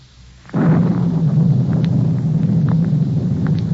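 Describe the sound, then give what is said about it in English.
A sudden loud crash of thunder breaks in, then rolls on as a heavy, continuous rumble beneath gusting storm wind, with no voices present. “As I came closer, a collar turned up against the storm.”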